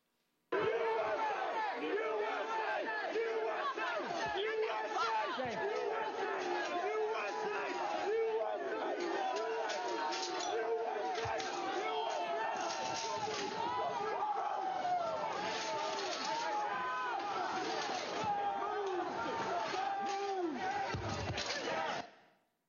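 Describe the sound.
A large crowd at the Peace Circle shouts and yells continuously as the police line at the bike racks is breached, a dense, loud roar of many overlapping voices with raised cries breaking through, sustained for about twenty seconds before cutting off abruptly.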